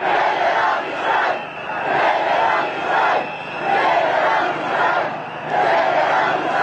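Thousands of people chant a slogan in unison at a joint rally of education workers and students in central Belgrade, Serbia, on 20 January, loud and rhythmic, the massed voices rising and falling in repeated phrases about once a second.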